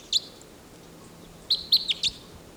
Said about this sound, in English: Stop. Wild bird.